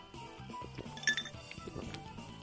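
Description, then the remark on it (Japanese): A single bright clink of drinks touching in a toast, one of beer and one of Alpaca red wine, with a short ringing tone, heard over quiet background music. “じゃあ、お疲れ様です。これから です。はい、お疲れ様です。はい、乾杯。”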